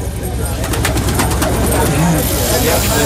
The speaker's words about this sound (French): Hop, et ils jettent. Ouais, maintenant c'est bien. Ils jettent une poignée de graines à ces pigeons.